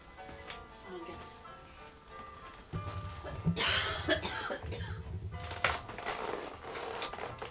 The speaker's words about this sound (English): It's a dry cough, isn't it?